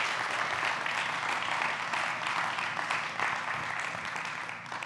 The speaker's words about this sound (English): prayed that you all would clap for me.